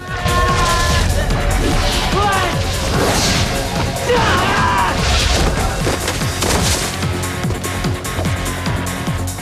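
A body slams into shelves with a loud crash as Reptile's flying kick sends Lu into them during a fight, part of a burst of heavy thuds and smashing impacts in quick succession, forceful over a dense, busy background.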